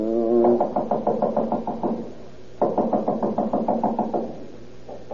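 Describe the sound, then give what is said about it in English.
A doorbell rings in long, rapidly pulsing bursts, two sustained rings separated by a short pause, then a third beginning at the end; loud, with no voices. “Keep on ringing.”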